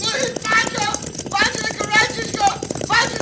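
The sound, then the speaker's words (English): A dense, rapid thunder of galloping hooves from a stampeding cattle herd and riders on horseback pounds loudly and continuously, with shouting voices and high cries layered over the rumbling beat. “Oh, he has fallen from his horse. Right in front of that stampede.”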